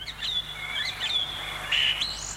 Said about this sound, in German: Singdrossel.